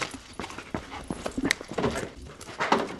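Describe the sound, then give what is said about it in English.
A detection dog sniffs busily around a vehicle, searching for a person hidden in the engine compartment under the hood: quick breathy snuffles and short huffs in an uneven rapid series, with faint shuffling around it and no talking. “dog sniffs right past the driver and alerts to a volunteer concealed under the hood.”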